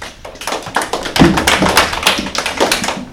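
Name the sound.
applause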